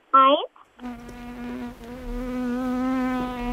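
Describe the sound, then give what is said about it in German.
A housefly buzzes steadily for about three seconds, a droning hum with slight wavering, preceded by a short separate tonal burst. “Da ist die lästige Fliege wieder.”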